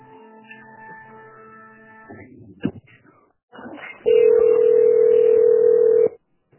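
A phone line hums with tonal beeps and a click, then a loud, steady tone holds for about two seconds before cutting off abruptly, as a call is transferred to a fisheries department whose telephone is busy and the call comes back.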